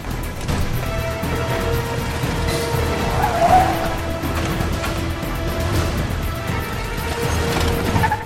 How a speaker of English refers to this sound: Jack starts the car and heads off at speed.